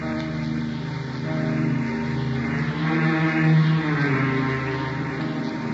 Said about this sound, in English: Rain clouds were gathering for a squall, and the motor launch strained through billowing waves toward an island looming on the horizon.